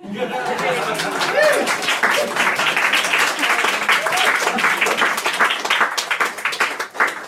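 A crowd applauds steadily for several seconds after a haiku reading, dense overlapping claps mixed with cheerful chatter and a bit of laughter, loud throughout before tapering at the end.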